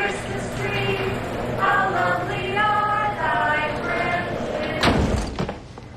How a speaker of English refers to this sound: Next, the carolers appear in the doorway of a garage. A scowling couple stand beside a car with a Christmas tree tied to its roof. The garage door closes on Romy, Blake, and family.